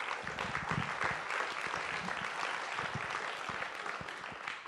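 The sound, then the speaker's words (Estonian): A crowd applauds steadily, dense overlapping claps forming a continuous wash of sound that holds at an even level for several seconds, with no voices. “Anname tal aplausi.”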